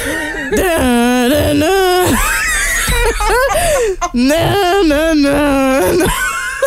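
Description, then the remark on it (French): A voice imitates a lawnmower for a song in two long, loud, buzzy drones that waver and sputter in pitch, separated by a short breathy break. “Cette fois-ci, je dois faire un bruit de tondeuse à gazon pour une chanson.”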